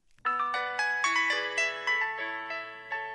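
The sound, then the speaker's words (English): A bright electronic cell phone ringtone plays a quick stepped melody of sustained tones, loud, with no voices over it. “This is a very important announcement, so please, everybody, turn off your cell phones.”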